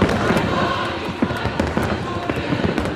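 A fireworks finale over the Washington Monument in Washington, D.C., spelling out Trump 2020, around midnight: a dense, continuous barrage of overlapping bangs and crackles over a steady rumble, fairly loud and relentless, with no clear voices standing out.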